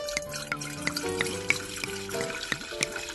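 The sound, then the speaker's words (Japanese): A drink pours steadily into a large, thick cup for a toast, a continuous gurgling stream with a resonant tone that climbs as the vessel fills, dotted with small splashes and drips. “ちょっとちょっとどんだけ入るんですか。 ごっついコップ持ってくるからよ、 樽のように入りましたけども。”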